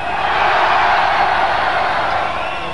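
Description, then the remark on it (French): A large concert crowd roars and cheers steadily, a dense wash of shouting voices that stays loud and unbroken for the whole moment before easing slightly at the end. “Alors la prochaine fois que le gros Le Pen là, il se baladera dans la France, je vais vous voir gueuler comme ce soir, ok ?”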